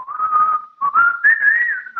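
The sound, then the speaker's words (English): A calm whistled melody in the style of video game music, sounding closer to Yoshi's Story than Yoshi's New Island, one clear tone drifting slowly upward with a short break in the middle, steady and moderately loud with no talking. “The music feels like it's going to put me to sleep.”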